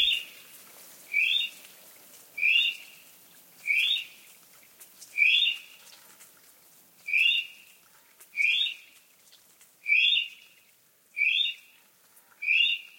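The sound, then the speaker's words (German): A North Island brown kiwi calls in a steady series of about eleven shrill, rising whistles, evenly spaced roughly a second apart, clear against a quiet background. “Das war der braune Kiwi der Nordinsel.”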